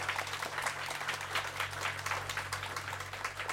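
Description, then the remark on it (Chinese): An audience applauds steadily throughout to encourage a class's mentors, a dense wash of many hands clapping at even loudness, with a low steady hum underneath and no one speaking. “我相信上帝要给他们的呢，是比这个掌声更多”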